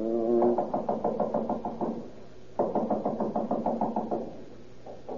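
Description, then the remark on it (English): A doorbell rings insistently in long, rapid rattling bursts, two sustained rings with a short pause between, then a third starting just as it ends. Fairly loud, with no voices. “Keep on ringing.”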